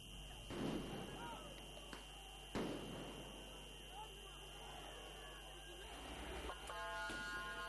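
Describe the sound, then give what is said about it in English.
Two sharp, booming pops of tear gas canisters being fired by riot police in Athens, Greece, to disperse anti-lockdown protesters, a couple of seconds apart, over a restless background of crowd noise and voices. “Riot police in Athens fired tear gas and water cannon to disperse the protesters.”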